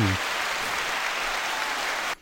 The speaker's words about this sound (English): And then he's got applause is the last one that he's got. And now, okay, fine. The applause one.